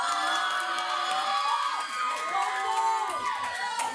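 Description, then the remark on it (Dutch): The school class HAVO 2B cheers and shouts together at Radiolab DenkTank 020, a dense wash of high excited voices and whoops, loud and continuous without a break. “Voor de laatste keer de nieuwe HAVO 2B. Laat je horen.”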